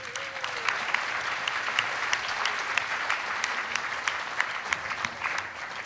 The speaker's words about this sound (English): All right, how about one more round of applause for that middle school?